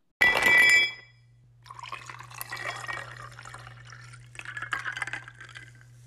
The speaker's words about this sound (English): Do we want to take a quick little break here and we'll come back. We'll make another cocktail and then we'll talk about some other.